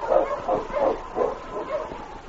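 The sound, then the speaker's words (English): A husky sled dog barks repeatedly in quick, mid-pitched bursts, about five or six yaps with short gaps between them, fairly loud against a steady background hiss, as the dogs are urged on toward a dock where a boat is leaving. “On, you husky.”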